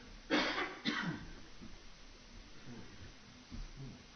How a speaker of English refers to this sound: And excuse me, I'm going to have a coughing fit, if you don't mind.